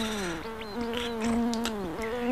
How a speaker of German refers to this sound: Eine dicke Fliege ärgert ihn schon eine ganze Weile.